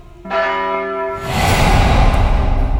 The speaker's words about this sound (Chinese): 左边的钟楼敲响三声，暗哑的声响让人不寒而栗，我太记得响起钟声的这座低伏教堂了。